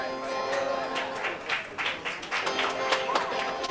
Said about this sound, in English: Smattering of applause, I'm sure it's appreciated.